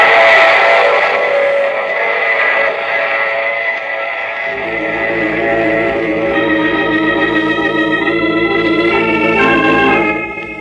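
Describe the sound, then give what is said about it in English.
In the radio drama The Mysterious Traveler, a train rumbles along while a long, loud whistle sounds over it, the wailing chord holding steady for several seconds before cutting off. No voices are heard. “Oh, you have to get off here. I'm sorry. I'm sure we'll meet again. I take this same train every week at this same time.”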